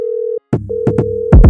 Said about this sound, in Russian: Я вишу на телефоне, что гудок или твой голос.